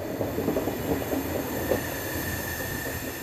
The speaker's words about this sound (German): Fast eine Stunde lang rollt der Zug mit quietschenden Bremsen durch die Vororte Ankaras, bis die Dunkelheit gnädig ihren Mantel über baufällige Wohnhäuser und Industriebrachen deckt.